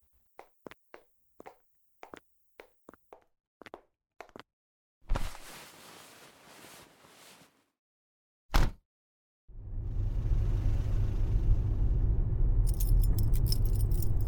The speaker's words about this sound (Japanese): ほら、暴れちゃダメよ。車で走ってるんだから、危ないわよ。